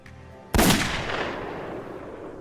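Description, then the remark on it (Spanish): A single loud, sharp gunshot from a .357 Magnum revolver, fired in a ballistics test, cracks out after a brief quiet moment. The bullet passes through flesh, drywall and the ceiling while a chronograph measures its velocity. A long reverberant tail slowly fades. No one speaks. “Sarno usó la Magnum calibre 357 que incautó a Kevin Doctor.”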